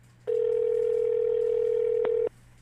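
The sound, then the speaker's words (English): A steady, loud telephone tone holds at a single pitch for about two seconds, with a brief click near the end before it cuts off abruptly, and no voices; heard while calling back after the other party hung up. “It was at that moment that he hung up the phone. However, not to be deterred, I called back.”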